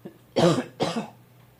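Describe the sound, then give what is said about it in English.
Two quick, raspy coughs in a row from a person who turns their head away while getting over a cold, slightly muffled and moderately loud, with a short pause between them and no talking. “I'm going to turn my head away and cough.”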